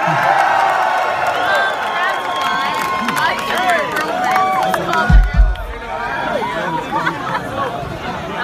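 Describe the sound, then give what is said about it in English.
A crowd cheers and whoops loudly, with many overlapping voices, rising shouts and high pitched yells blending into a steady roar of applause and chatter, plus a brief low thump midway. “Make some noise for yourself.”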